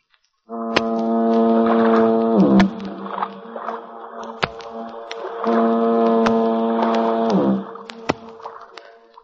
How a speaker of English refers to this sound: He gets to dreaming of his hometown, San Francisco, the Golden Gate, and that symphony of foghorns booming across the bay.